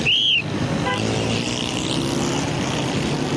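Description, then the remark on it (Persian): Dense, steady roar of city traffic on a street in Karachi, Pakistan, with engines rumbling, opening with a sharp, high whistle or horn-like tone that quickly fades into the continuous street din. “من باید ترافیک را تنظیم کنم. اما اینجا بسیار سر و صدا است.”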